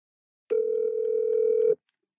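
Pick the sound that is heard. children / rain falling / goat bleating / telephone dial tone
telephone dial tone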